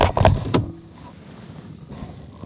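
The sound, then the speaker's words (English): A Toyota Prius car starts up after a key is put in: a brief loud mechanical whir and clunk in the first half second, then a low steady engine hum that continues quietly to the end. “You put a key in? The motor starts. But the car's still on.”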